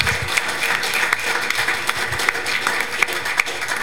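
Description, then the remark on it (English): A church audience applauds steadily, a dense wash of many hands clapping together, with sharper individual claps standing out now and then. Nobody speaks over it. “Give these guys a warm round of applause for what God has done in their life.”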